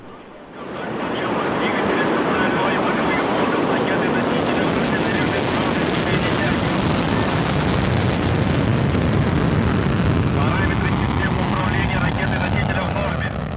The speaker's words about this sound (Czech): Prosince odstartovala z kosmodromu Baikonur raketa Soyuz 21A.